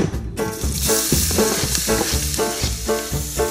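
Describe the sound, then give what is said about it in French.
Garlic and shallot sizzle steadily in a little butter in a large saucepan on the hob, a continuous hiss running for a few seconds, with rhythmic background music playing underneath and no one talking. “J'ai sorti une grande casserole que je vais remettre sur la plaque avec un peu de beurre. Et je vais y saisir l'ail et l'échalote.”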